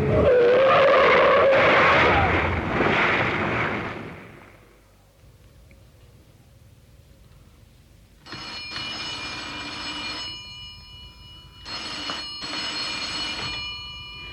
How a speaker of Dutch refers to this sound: Er komt de vrachtwagen aan.